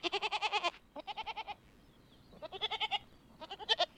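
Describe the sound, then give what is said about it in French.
A goat bleats in several wavering, pulsing calls, each a rapid vibrato of short bursts, with brief pauses between them, fairly loud with no talking. “Alors que la chèvre...”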